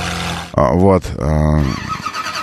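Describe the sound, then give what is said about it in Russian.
A McLaren sports car engine fires up and revs hard in two quick, loud bursts, its roar rising and falling before settling into a rough idle, with a voice speaking over it. “Здесь все заводы просто. Вот это McLaren.”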